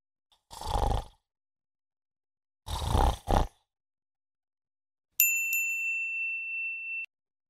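Two deep, raspy snores from a sleeping lion at night, the second breaking into a double huff, followed after a pause by a bright, sustained bell-like ding that rings for about two seconds. No speech.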